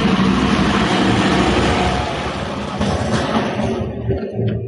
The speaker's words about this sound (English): Sorry. Did your house just fall down? It was garbage truck.